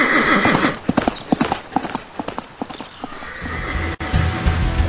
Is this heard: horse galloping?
yes